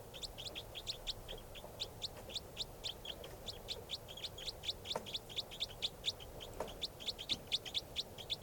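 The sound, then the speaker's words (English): A bird, later collected as bird number 579, calls over and over in quick, bright chirps, high-pitched and steady, repeating in short bursts across the whole stretch with a low background hum and no talking. “That's the bird.”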